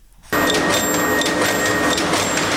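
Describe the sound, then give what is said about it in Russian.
A loud, steady printing-house machine starts abruptly and runs continuously, rhythmically cutting a huge paper roll into sheets of different sizes, with a dense mechanical roar, faint high tonal whines and light rhythmic clicks recurring about every three quarters of a second. “Шумная машина ритмично нарезает огромный рулон на листы разных размеров.”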